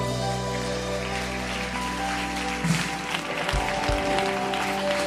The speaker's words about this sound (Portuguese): Aplauda o Senhor.